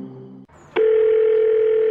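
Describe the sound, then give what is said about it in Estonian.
A steady, loud telephone tone sounds after a brief low hum and a short click, holding one even pitch for over a second before cutting off, ahead of an automated message saying the number called is switched off or outside the network service area. “Telefon, millele te helistate, on välja lülitatud või asub väljaspool võrguteeninduspiirkonda.”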